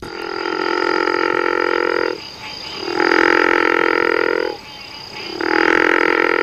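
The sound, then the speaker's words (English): A river frog gives long, rasping snore-like calls, three drawn-out rattling bursts separated by short pauses, loud, with no voices present. “The river frog's call sounds more like a snore than the call of the gopher frog we just listened to.”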